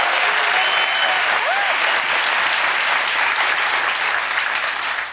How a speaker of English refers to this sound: Clap.